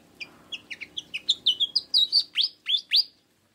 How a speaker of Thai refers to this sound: นกที่คุณเอพูดถึงอยู่นี้คือนกอีแพลดแถบอกดำ